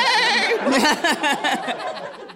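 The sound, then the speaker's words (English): A person's voice mimics a horse's neigh, a loud, wavering whinny that trembles with rapid vibrato for a couple of seconds before trailing off. “But now I know what it is, and now I can't look at him without being like, nay. Horses. Nay.”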